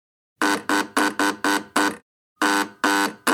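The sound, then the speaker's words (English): A loud, harsh buzzer at the front door sounds in a rapid run of six short blasts, then after a brief pause gives two longer buzzes. No voices accompany it. “And a buzzer.”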